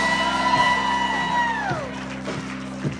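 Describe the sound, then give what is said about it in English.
An audience shouts praise together, a dense wash of cheering voices with one high, sustained whoop that glides downward near the end, all over a steady low hum. “Can I hear a shout of praise?”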